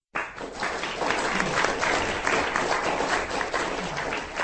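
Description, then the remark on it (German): An audience applauds a lecture by historian Detlef Brandes at a conference at the Goethe-Institut in Prague, many hands clapping in a dense, even wash that starts abruptly and holds fairly loud throughout, with no voices standing out. “Der Applaus gilt dem Vortrag von Detlef Brandes, einem der renommierten Historiker, die den Weg aus Deutschland, Österreich, Großbritannien und natürlich aus Tschechien nach Prag gefunden haben.”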